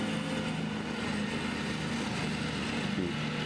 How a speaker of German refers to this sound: Das klingt, als würden wir da hinten irgendwelche Pflanzen zersägen. Ich mag das ja nicht, wenn Pflanzen zersägt werden.